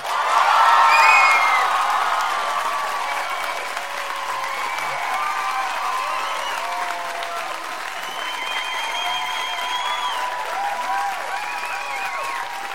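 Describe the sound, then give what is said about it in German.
A crowd bursts into sustained applause with scattered cheers and whoops as a performer is introduced, loudest in the first couple of seconds, then settling into steady clapping that continues to the end. “Euer Applaus für Herr!”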